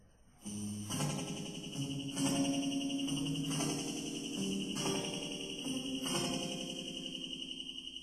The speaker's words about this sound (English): It feeds back on itself and it hands and it sounds like space crickets. Now that had not been done back in the day. It was a really cool special effect. And now I can do it on my guitar